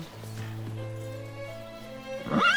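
horse neighing

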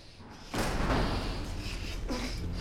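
door opening

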